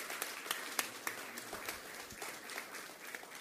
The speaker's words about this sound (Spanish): Vamos a convocar a una empresa que también sumó a su práctica en el día a día 6 autoelevadores eléctricos. Se trata de Corín. Y acá estamos recibiendo a la representante con un aplauso también.